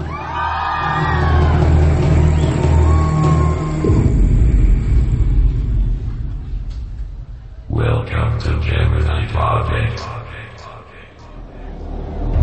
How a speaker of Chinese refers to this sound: 接下来今天晚上第一次的尖叫声在哪里呢？